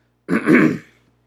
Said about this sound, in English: You'll constantly hear me clearing my throat because my throat chakra is also being upgraded.